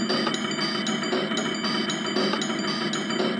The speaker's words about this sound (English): Jean Grey is going down the tracks of a subway tunnel. Only in New York! Now, there's a train.